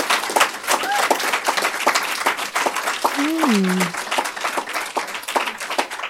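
An audience applauds steadily for about six seconds, a dense, even wash of many hands clapping, with a brief vocal cheer rising and falling over it midway.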